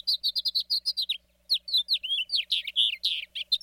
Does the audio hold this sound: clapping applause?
no